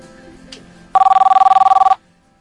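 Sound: telephone ringing once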